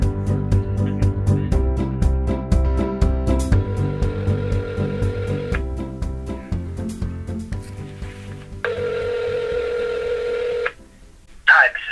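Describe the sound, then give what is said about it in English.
A cell phone on speakerphone in a library dials out, playing steady electronic tones in several sustained blocks that change pitch, fairly loud, with a short pause and a brief burst near the end. “I mean, we could do it on speakerphone in the library, on my cell phone.”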